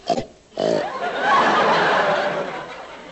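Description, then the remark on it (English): A person doing animal impressions imitates a pig: a quick snort, then a long, rough, gravelly grunt held for a few seconds, fairly loud with no other sounds around it. “That's a pig.”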